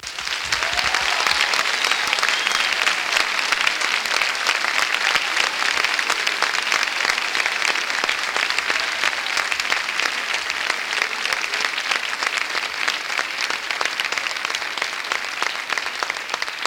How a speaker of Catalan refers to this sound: Deixeu-me en primer lloc donar les gràcies a totes les persones, entitats i formacions polítiques que han fet els dies de campanya amb un gran civisme, explicant-nos i amb moltes coses en contra. El primer dels aplaudiments d'aquesta nit és per ells.